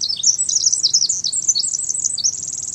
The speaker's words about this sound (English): Yet, for many, all those little brown birds look the same. Like the ones we're hearing, they might be sparrows or wrens or something altogether different.